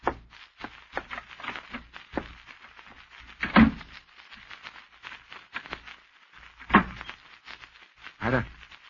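A closet door shuts with a solid thump, followed a few seconds later by a sharp click of the lock, with faint shuffling and handling noises in between.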